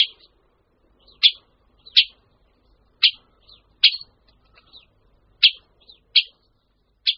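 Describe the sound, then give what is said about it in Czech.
A Syrian woodpecker calls repeatedly, short sharp 'kik' notes at irregular intervals, some louder, others softer, with no other sounds around them. “Lze ji rozlišit také podle hlasu. Strakapoud jižní se ozývá poněkud měkčeji.”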